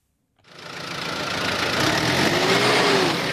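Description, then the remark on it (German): A New Holland diesel tractor of about 110 horsepower, with man-high fendered rear wheels and a particulate filter on its exhaust, starts up and settles into a loud, steady rumbling run, growing slightly louder, with no voices. Canton of Bern, Switzerland. “New Holland heißt er, arbeitet wie 110 Pferde, die Hinterräder mit Schutzblech sind mannshoch.”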